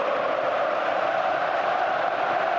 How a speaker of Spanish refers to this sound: Yo creo que va a acabar llorando, ¿eh? Le van a hacer llorar porque es el griterío extraordinario.